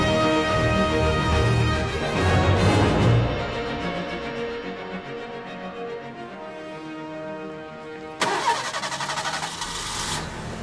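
A car engine cranks and catches with a rough burst, then settles into a steady mid-pitched hum as the car pulls away, driving from Anaheim along busy Route 134 toward Burbank, with a brighter surge of engine noise near the end.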